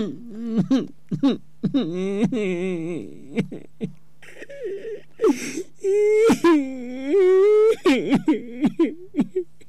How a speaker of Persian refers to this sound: چرا گریه میکنی بیادر؟